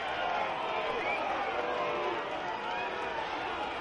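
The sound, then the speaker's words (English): A large baseball stadium crowd boos a pitch taken low on a 2-1 count with the bases loaded, in a sustained, rumbling wave of disapproval, steady and loud throughout, with scattered shouts mixed into the dense roar. “The crowd doesn't like it.”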